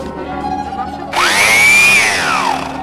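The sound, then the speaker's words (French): After a second of low background hum, a just-repaired electric sander is plugged in and switched on, its motor whining up in pitch into a loud, steady buzzing roar that holds to the end. “On va l'essayer, on va la brancher pour voir si elle fonctionne.”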